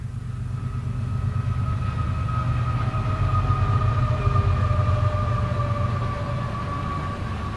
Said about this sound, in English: We can hear that. It sounds like it's here, though. No, it's not across the river. It's right here. It is here. Another train coming.